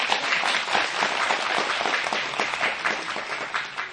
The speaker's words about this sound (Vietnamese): Cho Việt Dũng một tràng pháo tay đi quý vị.